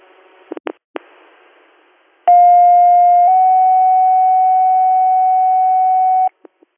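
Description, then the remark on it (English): Radio dispatch paging tones sent again to page a unit: a few short clicks, then a loud steady tone that steps to a slightly different pitch after about a second and holds for several seconds before cutting off, with no talking. “Are you on another set of tones? Yeah, hit him one more time.”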